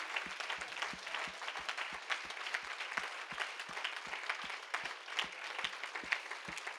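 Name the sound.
audience applauding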